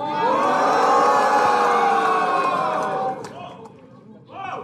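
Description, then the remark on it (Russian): A crowd cheers and shouts loudly for about three seconds, many voices blending into a sustained roar, then the noise drops off sharply into quieter murmuring with a brief rise at the end. “Еще пошумите.”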